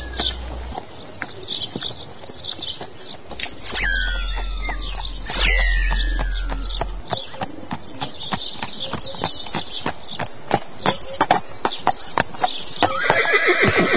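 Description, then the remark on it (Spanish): A horse whinnies loudly twice, descending neighs, over a steady clip-clop of hooves that continues throughout, with faint birdsong in the background. “Señor, podemos entonces dar un paseíto por aquí, nos puede guiar para que nosotros, como somos ciegos, no sabemos por dónde guiar los caballos.”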